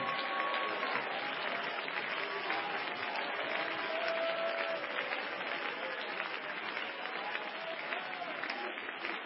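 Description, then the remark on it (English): An audience claps steadily for several seconds, a dense, continuous wash of many hands applauding together at moderate volume, with faint voices mixed into the crowd noise. “My God, folks, that deserved a bigger applause than that.”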